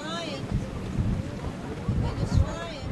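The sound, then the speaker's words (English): Blustery wind gusts buffet the microphone in repeated surges on the deck of a wooden schooner racing another boat toward a finish line out on open water, a steady low rumble swelling and easing over a few seconds, with faint voices in the background. “… is convinced her father is sending gusts of wind to help the American Eagle overtake the Virginia.”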